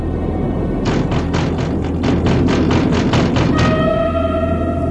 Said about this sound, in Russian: Стал это он так-то сумлеваться, вдруг слышит, стучат в окно.